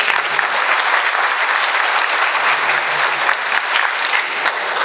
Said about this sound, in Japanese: 改めて今日いらした皆さんと、それからこの会の準備された皆さんに拍手を。